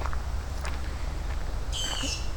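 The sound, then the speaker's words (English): Outdoors at a pond called Turtle Bay, a bird walking by gives a faint chirp early on, then a clearer, longer call near the end, all over a steady low rumble of wind or background noise. “We got some birds walking by the Turtle Bay again, and there's lots of frogs down in there.”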